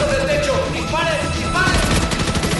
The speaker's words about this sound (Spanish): Disparos, explosiones, peleas a puños o a espada, Mila Jovovich se emplea a fondo durante toda la película.